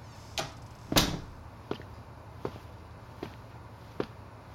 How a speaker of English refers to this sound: Close the door.